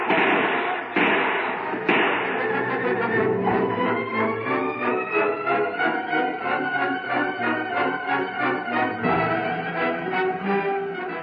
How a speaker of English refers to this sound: Shut the door. Shut the door behind me and lock it.